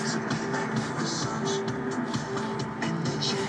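Steady, droning road rumble fills the inside of a moving car on a school run in 2010, with faint pop music playing from a CD in the front and a rear window open in freezing cold, a few sustained tones rising through the constant engine and tyre noise.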